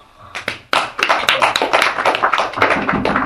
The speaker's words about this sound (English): Some of the devotees after chanting Hari Hari, they roll on the ground. Some clap their hands. Demonstrations.